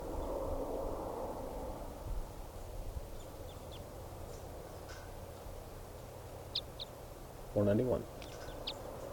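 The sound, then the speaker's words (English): A single harsh, buzzy bird call cuts in briefly near the end, preceded by a few faint, thin high chirps, all over a steady low rumbling background noise. “Recording bird.”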